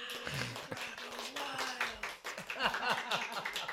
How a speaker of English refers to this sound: And there was much applause.